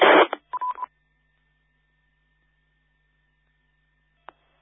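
A short burst of radio noise, then a quick run of DTMF keypad tones as a station logs in via EchoLink to a radio net. A faint steady tone follows, and a brief click sounds near the end.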